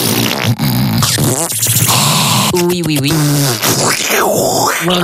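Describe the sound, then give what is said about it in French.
Loud, continuous parasitic mouth noises: wet lip buzzing and raspberry-like sputters mixed with wavering voiced grunts, with a few short spoken words in between. “alors le premier conseil c'est Évitez les bruits de bouche parce que...”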